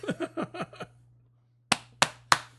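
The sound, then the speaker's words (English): Three sharp, fleshy smacks of a person slapping their own belly land in an even rhythm, about a third of a second apart, after a short burst of muffled voice. “I'll just slap my belly just there.”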